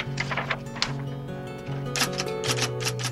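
Brisk, irregular clacking of an antique Underwood manual typewriter, keys striking in quick bursts, clear, over a steady low tonal hum in the background.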